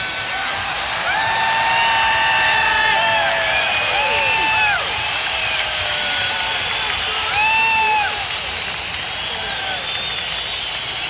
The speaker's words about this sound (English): stop letting off fireworks and shouting and screaming. I'm trying to sing a song.